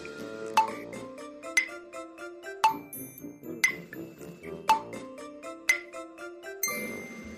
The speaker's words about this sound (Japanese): 正解は踏切の音でした。 踏切のこの音が鳴り出したら渡らずにちゃんと止まってね。